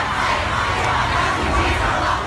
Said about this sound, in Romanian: S-au strigat sloganuri precum Trump nu este președintele meu și suntem împotriva rasismului.